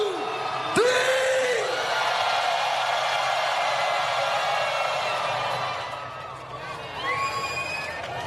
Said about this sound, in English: So on the count of three, put your hands in the air and scream so the motherfucking aliens can hear us. One, two.